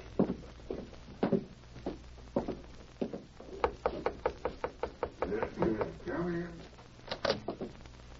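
A steady run of sharp, solid knocks on a wooden door at the back of a bank, about half a dozen evenly spaced raps, fairly loud, with softer thuds and shuffling movement before and after.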